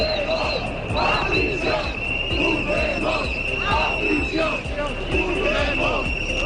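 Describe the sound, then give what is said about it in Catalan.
A large crowd chants slogans in unison at a demonstration against the amnesty for those convicted over the Catalan 1 October process. Voices rise and fall in a steady rhythmic cadence, sharp percussive beats punctuate the chant roughly every half second, and a constant high tone runs underneath. “Una manifestació on es van poder escoltar alguns dels típics crits que es van poder sentir precisament durant el moment àlgid del procés.”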